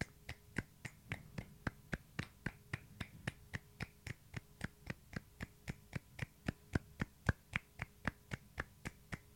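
A few people clap together at the same time in a quick, slightly uneven beat, roughly three sharp claps a second for about nine seconds, with no talking over them, as a light flurry of applause.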